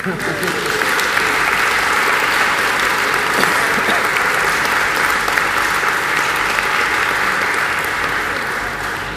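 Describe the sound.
An audience at a Christian wedding ceremony claps steadily and loudly for several seconds after the blessing. A dense, sustained wash of applause with a murmur of voices mixed underneath.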